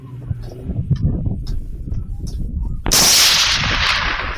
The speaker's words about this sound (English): And eventually, the wolf ran down a river, and one of the guys shot it.